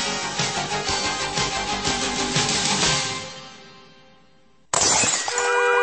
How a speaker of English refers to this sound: Do you have another brick through your window? Or still unlucky from that broken mirror in your house?